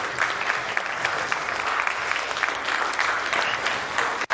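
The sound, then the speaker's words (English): A church audience claps steadily in sustained applause welcoming new members, a dense wash of hand claps holding at an even, fairly loud level for several seconds before cutting off abruptly. “Would you please welcome the new members with a round of applause?”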